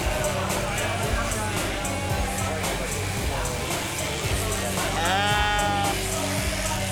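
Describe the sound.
A ewe lets out a wavering bleat near the end during a sheep-shearing competition, over a busy, noisy background with a commentator's voice and a constant mechanical hum.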